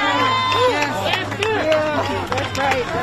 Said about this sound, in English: A crowd reacting after the verdict heard there on KSTP-TV in Minneapolis.